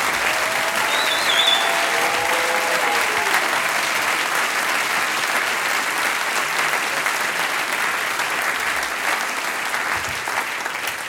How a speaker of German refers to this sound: mit einem großen Applaus, ihr wart spitze. Dankeschön.